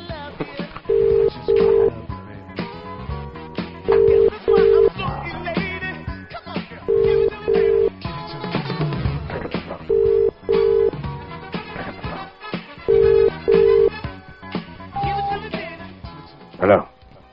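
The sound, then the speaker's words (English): A telephone beeps in evenly spaced pairs of short mid-pitched tones, about every three seconds, five pairs in all, while voices murmur underneath. “It's beeping at us. Stop beeping at me, you bastard.”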